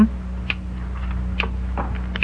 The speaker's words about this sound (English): Behind these boxes, somewhere about here. Sounds like a little clock.